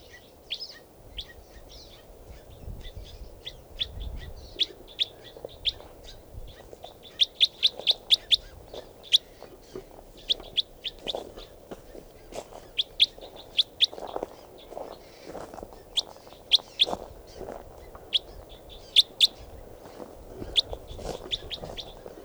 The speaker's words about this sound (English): And there's one more bird in the flock calling here. That's him.